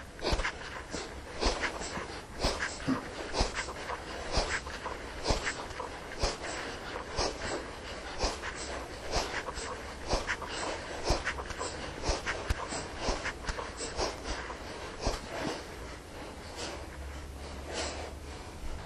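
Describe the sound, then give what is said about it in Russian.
Kapalabhati breathing: 11 forceful, rhythmic nasal exhalations in quick succession, the belly pulled toward the spine on each exhale, sharp snorting puffs of breath repeating steadily throughout, with no talking over them. “Капалабхати 11 раз. С выдохом вы прихлапываете живот к позвоночнику.”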